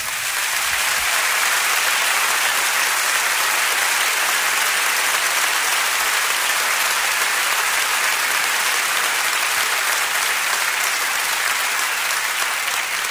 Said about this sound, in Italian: però lui proviene da New York e gli diamo un grandissimo applauso di benvenuto da New York City, Vinny Raniolo.